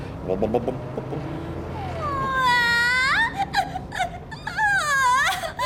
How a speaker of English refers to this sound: Hello, little girl. What are you crying for? I've lost my bus fare.